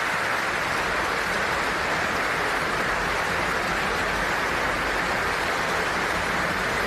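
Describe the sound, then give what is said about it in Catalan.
Sustained, dense applause from a large audience, a steady crackling wash of many hands clapping at even loudness throughout, with no voices standing out. It is an ovation for Sarah Gilbert, a developer of an anti-COVID vaccine. “No, no, encara segueix, segueix, segueix. Sí, sí, ovació, eh?”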